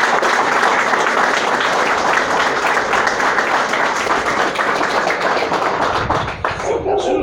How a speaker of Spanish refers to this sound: Y un aplauso para todas las chicas de la vecinal, que se lo merecen.